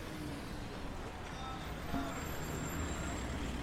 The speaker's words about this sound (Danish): Vi er i udkanten af Ramallah på Vestbredden. Biler suser forbi en stor bue på to søjler. Al-Amari, Martyr Arafat slot, står der over buen.